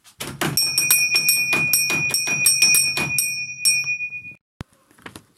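A small doorbell at a castle gate is rung rapidly over and over for about four seconds, its bright tones lingering, then it stops abruptly and a single sharp click follows. No one speaks.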